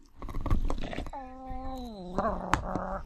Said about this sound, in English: And here's a dog playing with a chew toy.